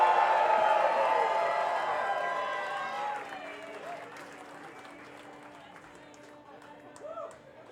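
A crowd applauds loudly with scattered cheers for a performer at the 14th Winter String Band Gathering, the clapping gradually thinning and fading over several seconds as a low steady tone and faint murmuring remain.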